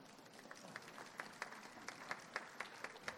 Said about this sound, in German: Ja, Sie können ruhig klatschen.